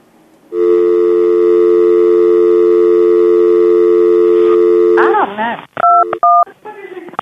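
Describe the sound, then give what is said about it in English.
A steady telephone dial tone hums unbroken for several seconds after the other caller hangs up, then a brief voice cuts in and a few short keypad dialing beeps follow. “Do I need to hit the dial tone?”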